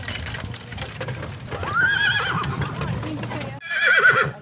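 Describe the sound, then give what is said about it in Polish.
Horses whinny loudly at an outdoor carriage rally in fine weather, one long neigh rising and falling, then another after a brief cut, over a busy bed of hoof clatter and crowd murmur. “Będziemy jechać obok siebie i po dwóch, po trzech, żeby pokazać, że konie są zgrane ze sobą.”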